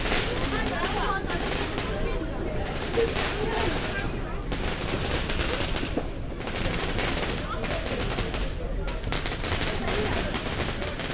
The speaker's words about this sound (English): Now there may be fireworks, but it's very wet and very grey and still getting dark, so I don't know. Oh, there we go, we're getting fireworks.